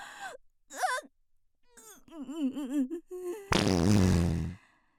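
Several short strained, whimpering vocal groans rise and fall, followed by a loud, buzzy, rasping fart lasting about a second before the sound cuts off.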